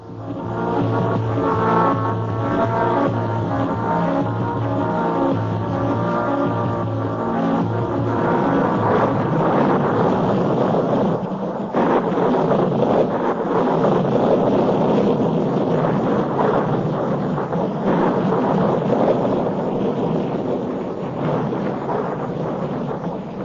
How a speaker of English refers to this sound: I'd forgotten what rain was like.